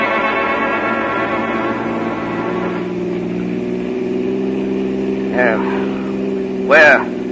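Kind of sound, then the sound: vehicle, old car engine driving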